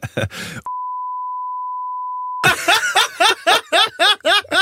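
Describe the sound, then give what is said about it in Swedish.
A steady, mid-pitched censor beep holds for nearly two seconds, cutting off a voice, and then bursts of rhythmic, pulsing laughter follow right after it. “Säg till mig nu så får vi ta bort. Bipa.”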